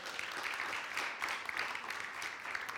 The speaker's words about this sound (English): And I want to thank all the people that serve every week. Well, I'd like to give them a round of applause as well. Let's give them a round of applause if we can.